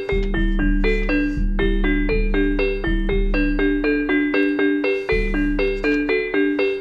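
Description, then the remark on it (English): A synthetic, machine-generated Christmas tune played on bright bell tones, with a steady bass pulse underneath and quick chiming melody notes repeating in a loud, continuous loop. No voices. “Here comes Syllabub Chocolate Bells.”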